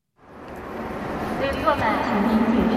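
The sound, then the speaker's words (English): Dense crowd ambience in the crammed Hongqiao railway station in Shanghai, China, during the holiday travel rush, a constant echoing wash of many overlapping voices and footsteps with occasional brief tonal sounds rising above the murmur, fairly loud and continuous. “The Hongqiao railway station is crammed with people, all anxious to get to their hometowns.”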